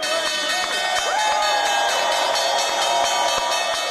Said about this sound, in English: Now, a quick quiz. Let's see if you can tell who was ringing the bell for the opening of the New York Stock Exchange on Thursday, just from the sound.